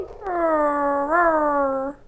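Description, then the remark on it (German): A small dog named Rex, locked in a room at Walburger Schloss, lets out one long, drawn-out whine, fairly loud, with a slight rise in pitch partway through. No distinct barks stand out. “Doch keiner hörte Rex bellen und winseln.”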